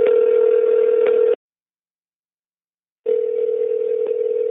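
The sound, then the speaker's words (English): An outgoing phone call's ringing tone: two long, steady electronic buzzes, each over a second, separated by about two seconds of silence. Clear, with no voices. “So let me get my phone and give her a call.”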